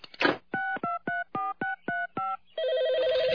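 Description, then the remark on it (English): An automatic dialer, programmed with every phone number in town and calling them one by one to play a message, clicks on, then punches out seven quick, evenly spaced touch-tone beeps, followed by a steady warbling ring tone on the line. Clear, with no voices. “This baby has every phone number in town programmed into it. It automatically calls them one by one and plays my message.”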